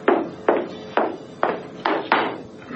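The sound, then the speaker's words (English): Six firm footsteps in an even walking rhythm, each a sharp heel strike with a short decay, growing slightly louder as they draw nearer. No one speaks. “After several minutes had dragged by, I heard approaching footsteps, and the guard in the doorway jumped to attention.”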